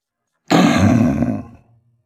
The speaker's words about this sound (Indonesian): Tak sengaja, ekor tikus masuk ke hidung singa. Ia membuat singa terbangun dengan marah sambil mengaum dengan keras.